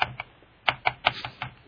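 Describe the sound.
Rapid computer mouse clicking by a radio host searching online while on air, about seven crisp clicks in an uneven quick rhythm, with no voices and only a faint low hum between them.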